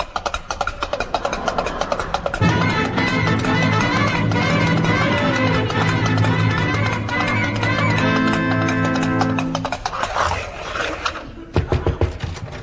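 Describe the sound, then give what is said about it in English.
Rapid hoofbeats of a galloping horse clatter steadily as it moves away, accompanied by sustained musical tones through the middle, then briefly thin out before a few final hoof clops. “a horse for the Crown Prince.”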